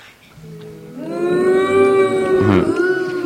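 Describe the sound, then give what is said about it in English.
A single long, loud cow moo, rising in pitch and then holding steady before trailing off, clear with no talking around it. “Then the cow welcomed the baby.”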